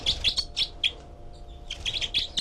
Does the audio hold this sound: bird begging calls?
yes